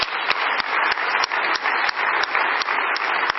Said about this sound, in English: So when it comes to the, so actually let's just give them a round of applause.